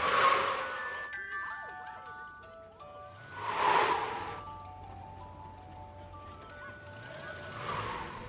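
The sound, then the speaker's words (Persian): An ice cream truck jingle plays its tinkling melody steadily at moderate volume, notes sliding slightly off-key, while louder bursts of rough noise swell up three times over it. “اون کامیون بستنی فروشی چرا انقدر عجیب شده؟”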